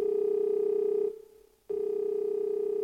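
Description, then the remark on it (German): A steady telephone dial tone hums on its own as a quiz contestant calls a phone-a-friend lifeline, drops out for about half a second, then resumes at the same level. No voices are heard. “Ich bin mir leider sehr unsicher, deswegen rufe ich meinen Telefonjoker an.”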